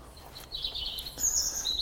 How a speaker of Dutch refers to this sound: Boven ons hoofd. Dit. Zanglijster? Nee. Oh. Ah. Dat is een van jouw favoriete vogeltjes.